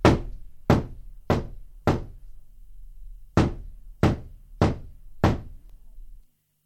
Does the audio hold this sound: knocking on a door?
yes